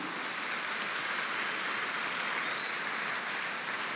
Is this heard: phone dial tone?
no